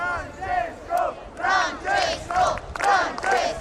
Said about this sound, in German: Es sind mehrere hundert Menschen, die vor dem Gemelli-Krankenhaus in Rom gespannt auf Papst Franziskus warten. Um 12 Uhr, also in wenigen Minuten, soll er erscheinen, heißt es.